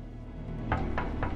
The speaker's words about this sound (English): Tom Lennox walks through the bunker. He knocks at the door of an office.